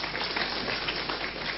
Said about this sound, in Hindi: तो सभी विश्व के रेलवेज के लिए जरा जोर से एक बार तालियां बजाइए.